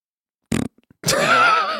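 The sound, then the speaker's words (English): A short buzzy burst, then a longer wet, quavering raspberry blown with the lips, fairly loud, imitating a fart. No talking. “Don't make the fart noise after the appeal to vote.”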